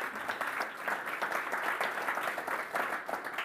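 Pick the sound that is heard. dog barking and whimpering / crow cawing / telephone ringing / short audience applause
short audience applause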